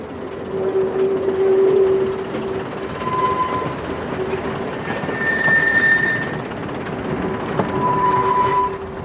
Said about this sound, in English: I take it the wheel screaming and the brakes binding was a reference to the train. Yeah, it was the train.